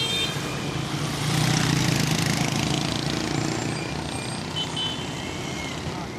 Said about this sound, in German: Unbeeindruckt davon ziehen 1000-köpfige Geschwader von Mopedfahrern vorbei, fast alle ohne Helm, einige mit Frau und Kind im Tragetuch auf dem Sozius.